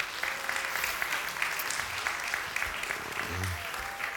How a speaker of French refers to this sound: On peut l'applaudir, oui.